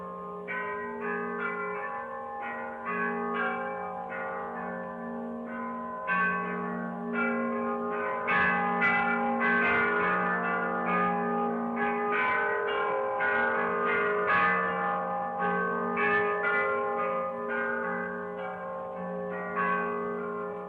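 Church bells in one of the bell towers around the square in Bologna ring continuously in a dense, overlapping peal, many strikes layered over a sustained humming resonance, loud, with no voices.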